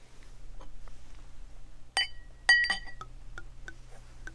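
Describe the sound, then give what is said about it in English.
Ruinart champagne being poured into a glass: two sharp, ringing glass clinks stand out over a steady low hum, followed by faint, scattered ticks and crackles of fizz, with no talking. “Okay, we're going to pour.”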